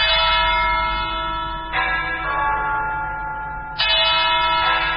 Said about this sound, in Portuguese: Os sinos da Catedral da Nossa Senhora da Vitória, em Yaoundé, convidam os católicos para a celebração da liturgia que será oficiada pelo arcebispo Jean Mbarga.